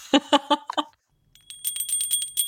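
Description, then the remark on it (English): A small hand bell rings rapidly and continuously for about a second, with bright, shimmering, high metallic tones. It follows a few short, lower tonal notes and a brief silence. “So we ring our little bell.”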